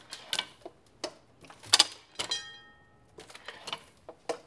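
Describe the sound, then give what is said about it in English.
Rhythmic mechanical clacking of a printing press inking its type and making impressions, with a single bright bell ding that rings out and slowly fades midway through as the clatter continues. The bell is struck by a simple mechanism at the back and is an extra, not needed for the press to operate. “The ding, ding, ding is just sweet. It's just a little extra. It's not necessary to the operation of the press.”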